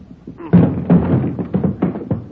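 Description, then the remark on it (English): Police officers pound heavily on a door, about six loud thuds landing in quick, uneven succession, each one booming briefly before the next blow. “Hit the door.”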